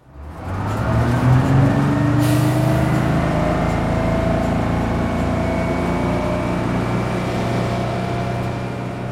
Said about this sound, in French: C'est une scène d'autocar, de bus, voilà, c'est une scène de retour